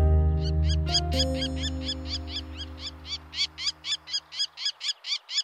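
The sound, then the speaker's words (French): A male lesser kestrel gives a rapid, rhythmic series of about a dozen harsh, rasping calls during the breeding season to attract females, growing louder and clearer as a low musical hum fades out beneath them. “Les seuls moments en fait, où on l'entend, c'est pendant la période des amours, quand le mâle essaye d'attirer des femelles pour la reproduction.”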